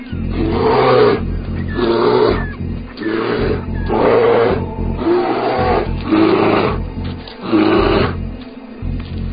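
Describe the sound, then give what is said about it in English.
A mother big cat growls a warning at an arriving young male, in a steady series of about seven rasping, throaty bursts, each roughly a second long, loud and low with a continuous rumble beneath. “She growls a warning, but it's not enough.”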